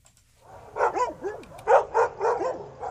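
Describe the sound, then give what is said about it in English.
Dogs bark in a rapid, uneven string of about six sharp barks mixed with whiny yelps, clear, with no one talking over them; four dogs are kept in outside kennels at the Evansville Animal Care and Control Shelter on a sunny, 80-degree day. “At the Evansville Animal Care and Control Shelter, there's no more room inside for dogs, so four of them are staying in outside kennels.”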